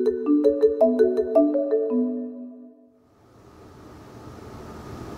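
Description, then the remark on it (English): A short melodic electronic chime plays a few rising notes, then fades into a steady low rumble and hiss of a train pulling into Brookwood station in Surrey, with no one speaking. “The next station is Brookwood. Please mind the gap between the train and the platform edge.”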